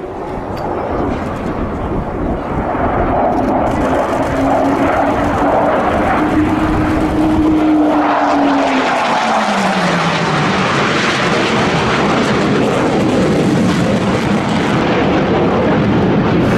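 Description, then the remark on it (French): A Chengdu J-20 fighter jet, a Chinese plane flying with a Russian engine at the Zhuhai Air Show, roars loud, a dense continuous rumble whose whining tone rises, then drops in pitch as it sweeps past overhead. “Et comme vous avez l'oreille, vous avez reconnu bien sûr ce moteur russe,”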